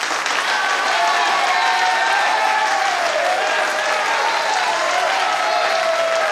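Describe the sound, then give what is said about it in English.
Loud, sustained clapping and applause from the audience at a school singing competition after a song fills the whole stretch, a dense steady patter of many hands with a faint murmur of voices mixed underneath. “She sang brilliantly, and at the end of the song, Alex and some of the others stood up and clapped very loudly.”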